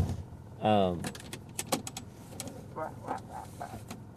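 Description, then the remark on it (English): A brief whining motor hum gives way to a series of sharp clicks and clunks as a car door is unlatched and pushed open to reach the mailbox and get the mail, followed by faint muffled voice sounds. “My window is frozen. Okay, I will open my door instead of breaking my window.”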